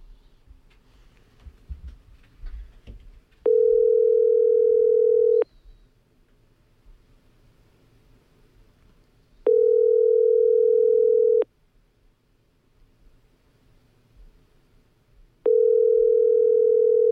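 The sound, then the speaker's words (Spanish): A telephone ringback tone from a call to reserve a table at Garibaldi repeats three times, each steady mid-pitched ring lasting about two seconds with long silent gaps between, and nobody picks up. Faint background murmur fills the start. “es que no cogen el teléfono aquí.”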